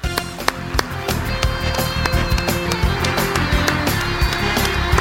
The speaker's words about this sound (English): Please, a nice, warm round of applause for the chairman of the House Agriculture Committee, Congressman Frank Lucas.